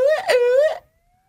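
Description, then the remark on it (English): A short alarm siren wails once, a loud, buzzy tone that swoops up and down in pitch for under a second before cutting off into silence. “Well, I think it's time to sound the alarm.”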